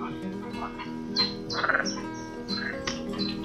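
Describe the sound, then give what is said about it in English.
Frogs croaking in a deep pond, a dense layered chorus of raspy, pulsing calls with a burst of rapid rattling croaks midway, steady and moderately loud throughout, with no talking. “Elle est profonde, la mare. Il y a même des grenouilles.”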